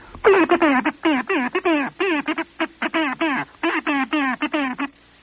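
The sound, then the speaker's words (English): A voice rapidly imitates International Morse code, chanting a steady run of short and long clipped syllables with brief gaps, fairly loud, like spoken dits and dahs. “That's the International Morse Code, which is another kettle of fish.”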